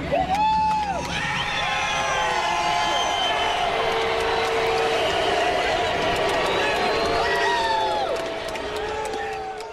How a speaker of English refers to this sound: So people booing there at the end.